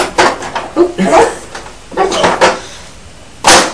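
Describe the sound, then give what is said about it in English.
A small toy door is clicked and rattled open with several quick plastic clacks and scrapes, followed by a sharp final snap, while people talk. “This is a door to open it.”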